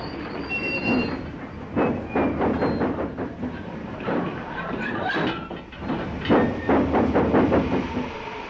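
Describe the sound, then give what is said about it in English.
A train labours and fails to get moving because its load is too heavy, with a run of heavy, uneven chuffs and high metallic wheel squeals over a constant rumbling hiss. No voices. “Can't get it started. The load's too heavy.”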